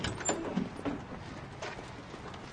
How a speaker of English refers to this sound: Richard checks the sliding door on the camper van